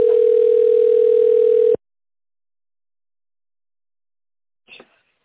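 A steady, loud telephone busy tone, signalling that the called party's line is busy, drones for under two seconds, then cuts off into silence, broken near the end by a brief soft click or rustle.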